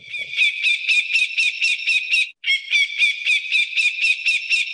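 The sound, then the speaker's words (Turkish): A secretary bird, a long-legged bird, calls in a loud, rapid string of harsh, pulsing notes, broken by one brief pause before the rhythmic series resumes. No one speaks. “Bu da sekreter kuşumuz. Uzun bacaklı kuşumuz.”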